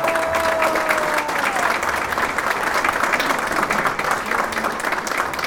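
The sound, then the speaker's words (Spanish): Steady, dense applause from a sizable audience honouring a reader recognised as the best reader of the municipality at a readers' congress, many hands clapping at once in a continuous wash of sound that holds at a fairly loud level throughout, with faint crowd murmur underneath. “Un aplausote, por favor.”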